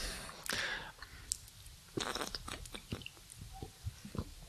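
Quiet sounds of drinking from glasses after a toast: a light clink, then soft sips, swallows and small mouth clicks scattered over a few seconds, with no talking.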